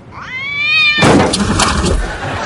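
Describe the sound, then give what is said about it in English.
A single drawn-out cat yowl, loud, rising then holding steady before cutting into a burst of harsh, noisy scuffling that lingers to the end. “The suicidal cat.”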